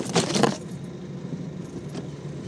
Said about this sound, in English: this will give us some concept of how long the boat has been moving, because the boat began moving. Did you hear that metal grate on stuff? Here we go. Here we go. Oops.